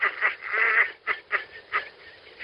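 A mother goose honks repeatedly and harshly, a long strained call followed by several short, sharp honks in an uneven rhythm, loud.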